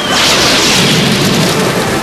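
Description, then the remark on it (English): A loud storm effect: a dense rushing roar of thunder and pouring rain fills the whole moment, steady and unbroken for about two seconds, with no voices. “Nature, I command you, bring forth thunder and lightning. I summon the full power of the storm!”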